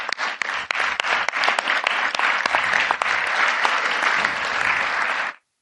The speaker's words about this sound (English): Let's give him a big round of applause, okay?